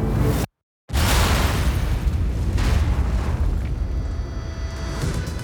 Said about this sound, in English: Seconds later, 13 barrels filled with TNT exploded in a hidden tunnel beneath the road. The blast launched the convoy into the air and instantly killed the officers in the front car.